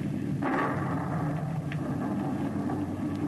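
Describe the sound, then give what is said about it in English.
A thunderclap from a lightning strike: a sudden crack breaks out of a steady, heavy low rumble that rolls on loudly for several seconds with no voices. “The lightning struck him dead.”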